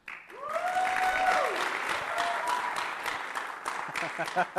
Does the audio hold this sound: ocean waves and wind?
no